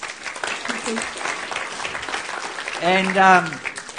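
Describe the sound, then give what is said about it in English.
A crowd claps steadily for about four seconds to welcome a guest, a dense, even patter of many hands. Toward the end a voice rises over it with a brief sustained call or cheer. “Let's give her a clap.”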